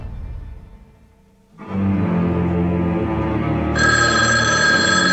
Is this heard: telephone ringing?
yes